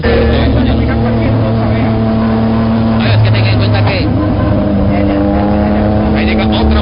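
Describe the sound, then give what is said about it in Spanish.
A car engine roars loudly and steadily during a chase, its droning pitch shifting as it strains at a top speed of about 60. People talk over the noise throughout. “¿A cuánto velocidad puede ir ese mío allí, sabiendo que este carro va rebuznando ya y no le da para alcanzarlo?”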